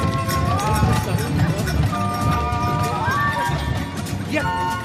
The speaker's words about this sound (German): Schnaps verschmähen und die Pferde ziehen trotz 3/4 voller Flasche wieder an. Auf geht's!